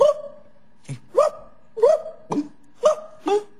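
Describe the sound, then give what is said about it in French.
A person imitates a hungry, thirsty Kabyle dog that has not eaten for a long time, letting out a quick series of about six short, strained yelping barks in an uneven rhythm, fairly loud with brief pauses between. “Un chien qui a pas mangé depuis longtemps, un chien qui a soif.”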